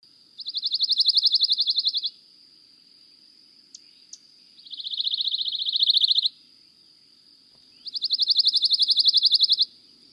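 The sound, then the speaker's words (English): A pine warbler's dry, rapid trill sounds three times, each steady buzzy run lasting around a second or two with short pauses between, clear with no voices. “That was a dry trill of a pine warbler.”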